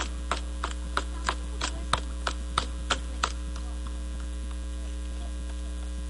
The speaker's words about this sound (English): It sounds like a person running. Very good. That's what it's supposed to be, the sound of running feet.